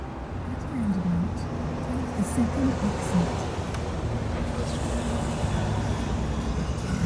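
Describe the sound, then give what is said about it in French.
A rented car drives through pouring rain on an autumn afternoon, heading from Vienna airport toward the Czech border, with a dense, steady hiss over a low engine and road rumble that holds constant throughout. A faint voice briefly murmurs near the start. “J'ai loué une voiture à l'aéroport de Vienne et je roule en direction de la frontière tchèque.”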